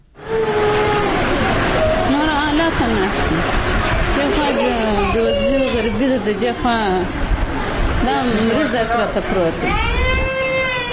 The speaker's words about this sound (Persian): این مادر در شفاخانه میرویس کندهار در کنار بستر کودک مریض خود نشسته از فقر و بیچارگی گریه می کند.